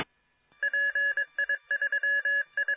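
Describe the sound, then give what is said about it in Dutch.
A mobile radio station transmitting a rapid sequence of electronic two-tone beeps, like dialing tones sent over a radio link, pulsing in short bursts of varying length after a brief silence, clear and steady. “want ik hoor een mobiel station.”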